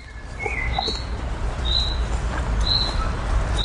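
A common chaffinch in a city park in Berlin repeats its short, clipped rain call every second or so, clear but not loud, over a low constant rumble of outdoor background noise, with no one talking.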